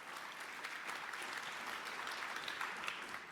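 An audience at a conference talk on net neutrality applauds steadily throughout to welcome the speakers, a dense wash of many hands clapping at an even level with no voices rising above it.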